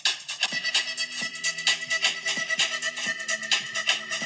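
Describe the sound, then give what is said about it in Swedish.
A song plays through a small phone speaker held up to a microphone, thin and tinny with little bass, a steady rhythmic beat and sustained tones running throughout at moderate volume, with no talking over it. “Okej, okay, nu spelar vi upp en liten trudelutt på den här låten.”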